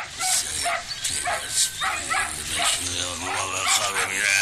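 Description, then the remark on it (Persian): Several dogs bark in a loud, busy chorus at a caravanserai yard, sharp overlapping barks and yelps coming every fraction of a second, continuous for the whole stretch. “با صدای سگ‌ها چشمایش را باز می کند.”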